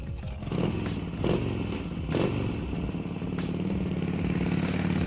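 A bus engine rumbles and revs steadily as the last bus back to Palma, Mallorca, pulls away, with a low droning hum, a few sharp clanks and rattles, and no voices.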